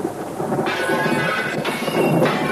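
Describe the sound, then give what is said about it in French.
A loud, sustained thunderclap rumbles, with sharp crashing bursts of window glass shattering woven through the roar as the window panes break after the thunderclap. No voices are heard. “Mais ce qui est curieux, c'est qu'elles se soient brisées après le coup de tonnerre!”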